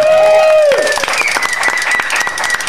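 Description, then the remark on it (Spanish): An audience bursts into steady, dense clapping after a brief sustained tonal sound that slides downward in pitch at the start, then the loud applause continues alone. “Te digo que si, aplaudir”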